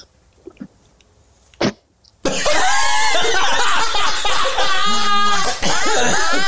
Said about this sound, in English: And finally, if you want to try and give us the best one that you can, queef number three.